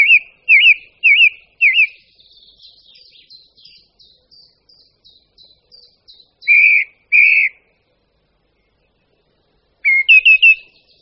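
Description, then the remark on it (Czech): A song thrush sings loudly and clearly with no other sound around, repeating short bright phrases in bursts, with a thin twittering stretch between them and pauses of silence. “Jednoho rána se z čista jasna do stichlé zmrzlé přírody ozve jejich radostný hlasitý zpěv.”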